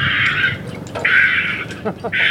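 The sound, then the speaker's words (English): Harsh, raspy screeching calls come in three long bursts, with short clicking chatter between them: a recording of a heron colony, adults screeching and chicks calling, played back loudly from a speaker being tested up in a tree at Lake Merritt in Oakland. “It's playing a recording of herons.”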